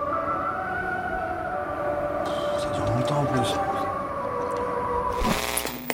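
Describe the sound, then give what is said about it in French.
Giant loudspeakers in North Korea blare an odd wake-up sound across the whole city every morning at 5 a.m., a steady siren-like drone of layered held tones that runs throughout, while a person talks over it. “Chaque matin à 5 heures, des haut-parleurs géants envoient du son bizarre sur toute la ville.”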